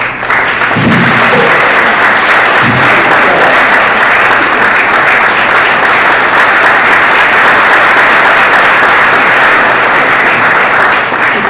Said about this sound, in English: I'd like an honorable applause for them.